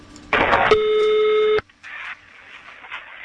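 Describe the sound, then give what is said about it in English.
A single steady electronic telephone tone sounds for about a second after a short noisy burst, then cuts off as a phone call to Real Madrid connects. Faint line hiss and a brief rustle follow. “this is that very phone call he did at Christmas for us.”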